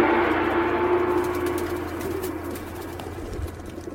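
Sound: pigeons cooing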